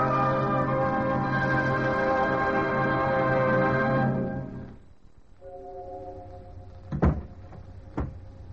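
door closing

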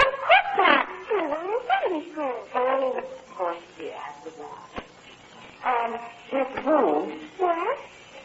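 dog barking and whimpering

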